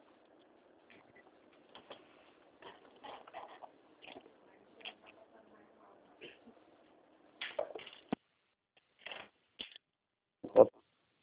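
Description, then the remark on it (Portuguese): Someone rummages around for a pen to note down a loan proposal number: scattered rustles, taps and small clatters come in irregular bursts, growing sharper and louder toward the end over a faint low murmur. “Deixa eu pegar aqui uma caneta, só um Tá, minutinho.”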